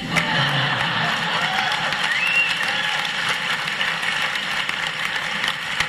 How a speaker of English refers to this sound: You clap everything, do you?